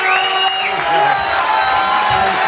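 A large crowd cheers and applauds steadily, with bright whistles and whoops rising above a dense wash of clapping that stays loud throughout.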